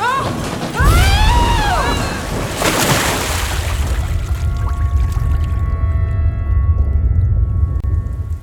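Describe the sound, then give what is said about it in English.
Heavy floodwater surges and sloshes on a beach in a continuous, loud rushing roar with a deep rumble, opening with warbling, eerie tones and a crashing burst before settling into a steady churn. “Well, whatever it was, the flood's pretty much smashing it about.”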